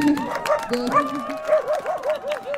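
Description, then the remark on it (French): A dog barks in a quick, excited run of short high-pitched yips, about a dozen in a steady rhythm, fairly loud with no one talking over it. “Même le chien a l'air très très réjoui de ça.”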